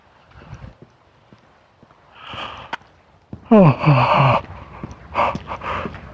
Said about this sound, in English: I'm yawning, trying to get enough oxygen in my blood to keep up with the stuff I'm burning here, I guess.